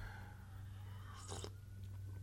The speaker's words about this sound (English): hold on, here comes another coffee slurp